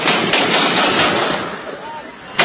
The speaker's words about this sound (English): The sound of gunfire coming from a video on social media Saturday reportedly showing Taliban fighters executing an unarmed prisoner.